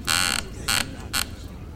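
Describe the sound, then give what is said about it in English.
A chaise lounge chair creaks three times in quick succession, each a short scratchy squeak, the first longest and the later two briefer, with no talking. “What did it say? I don't speak chair.”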